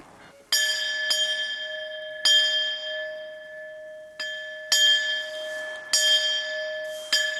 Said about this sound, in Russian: Но недавно монахини нашли здесь небольшой колокол.